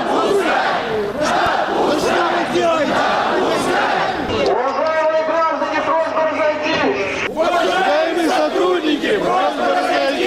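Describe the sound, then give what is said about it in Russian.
A large crowd of young people shouts the protest chant "Мусора, позор России!" ("Cops, shame of Russia!") in unison, loud and rhythmic, with repeated rising and falling phrases over a dense, continuous roar of many people. “Молодежь в сотне глоток орет «Мусора, позор России!».”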